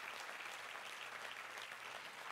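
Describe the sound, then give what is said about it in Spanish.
Sustained audience applause, a dense steady patter of many hands clapping at once, filling the whole moment without pause, no voices standing out. “Si tú quieres aplaude.”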